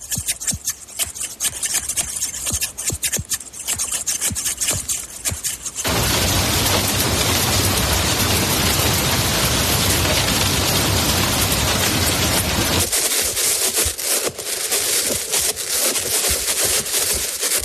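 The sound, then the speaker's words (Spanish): Crisp snipping of barber scissors, then a steady wash of heavy rain, then sharp metallic taps from a hand wearing metal gloves, each sound in turn with no talking. “En este caso se trata de unas tijeras de peluquero, la lluvia y los golpes de una mano con unos guantes de metal.”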